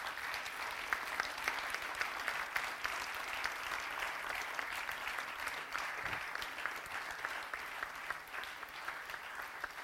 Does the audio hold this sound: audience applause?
yes